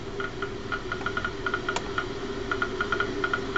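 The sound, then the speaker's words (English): Rapid, irregular clicking of a Geiger counter as a person measures an old perfume bottle for radioactive material, sharp ticks coming in uneven bursts over a steady low hum, with one brighter click standing out partway through. “This is a person that's actually, if you hear all that clicking in there, that's somebody that's using a Geiger counter.”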